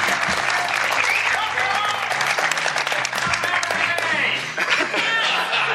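A crowd in Indianapolis breaks into loud, sustained applause welcoming a panelist at a live G.I. Joe fan panel, dense clapping filling the whole stretch with a few chuckles and cheers mixed in, steady throughout.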